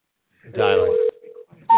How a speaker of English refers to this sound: Dialing.